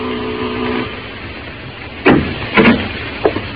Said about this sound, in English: At the head of the stairs was the door marked manager. I rang the bell.